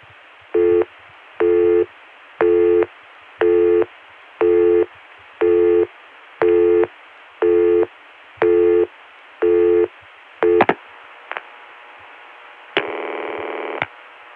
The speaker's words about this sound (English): it goes to a busy signal that sounds similar to one we heard in another PDX in the last program. But unlike that other busy signal, which never times out, this one does time out to a ring, presumably ringing the attendant.